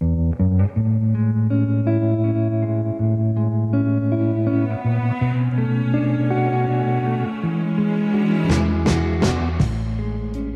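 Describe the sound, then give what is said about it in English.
A song with vocals drenched in heavy reverb, floating over dense, sustained layers of washy sound, with a few bright crashing accents near the end. “And I don't use reverb often, but the voice is seeped in reverb, but with intention.”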